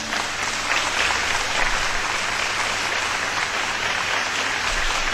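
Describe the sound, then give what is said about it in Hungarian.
A crowd applauds steadily for the full length, a dense, continuous wash of many hands clapping at once, fairly loud and even with no breaks or voices standing out. “na, ne tapsogassatok már annyit.”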